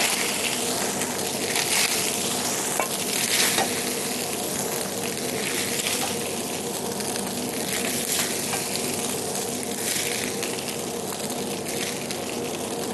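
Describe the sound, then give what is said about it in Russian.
Steady, loud sizzling of fish frying in a pan, a continuous crackle with occasional sharper pops and scraping stirs, with no talking. “Все, блюдо готово. Все, я выкладываю.”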